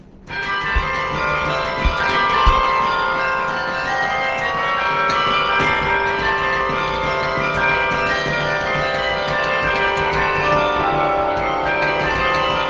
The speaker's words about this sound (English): And if you stand right next to him, you can hear the levers pulling the clappers that cause the bells to ring. I'll play you a little exercise by Fernando Sor. This was originally written for guitar.